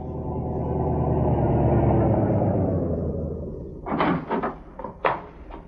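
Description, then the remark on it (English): A car engine rumbles, swelling and then easing off as the car draws up and stops before the entrance of a house, followed by a few sharp clunks like a car door opening and shutting as a man gets out. “A short time later, a car drew up before the entrance.”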